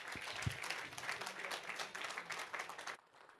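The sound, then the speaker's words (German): A crowd breaks into steady applause for a speaker about to begin a talk, many hands clapping in a dense wash of sound for about three seconds before it quickly dies away. “Einen großen Applaus und los geht's.”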